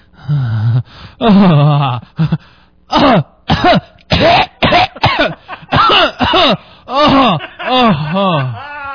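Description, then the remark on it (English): A man's voice loudly imitates a smoker's hacking cough, a series of harsh, rasping bursts mixed with strained wheezing gasps and groans, with no actual words. “This guy fucking hacks, wheezes, and comes all at the same time.”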